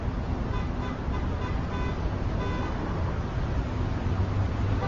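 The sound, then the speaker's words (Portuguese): Dense, steady traffic rumble fills the scene, with faint car horn toots from many drivers honking, blending into the roar of engines at street level. No one speaks. “Tá todo mundo buzinando.”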